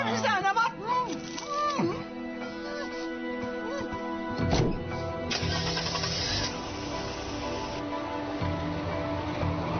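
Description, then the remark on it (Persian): A car engine is turned over with the key, cranking briefly before catching and settling into a steady idle, while voices murmur faintly in the background. “چی کار میکنی؟ کلیده ماشین.”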